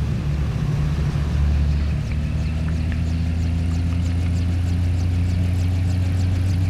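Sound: car engine running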